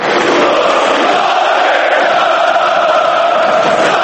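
A large stadium crowd of football supporters chants verses from the Partizan supporters' song "Pristalica Partizana" in unison, a loud, dense wall of voices that holds steady throughout without pause.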